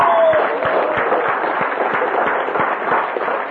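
A crowd applauds steadily, a dense wash of many hands clapping at an even loudness from start to finish, with sharper individual claps popping out of the texture. No one speaks.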